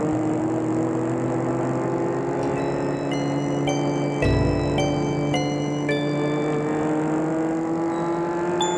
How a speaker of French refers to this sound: Il fait très chaud, la route est déserte, la voiture file, elle le suit.